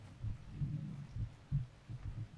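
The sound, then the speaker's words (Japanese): A steady human heartbeat, low and muffled, thumping in soft paired beats at a slow, even rhythm, quiet with a faint background hum and no talking. “なんで心音を聞いているだけでこんなに落ち着くか知ってる？”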